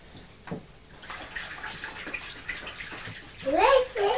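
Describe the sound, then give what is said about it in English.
Water splashes and burbles as it's poured into a bubble bath, a steady wet rush with brief bubbly gurgles, while a child's faint voice chirps high near the end. “Just slowly water it, think of it, that's right. Let's put a few more bubbles in.”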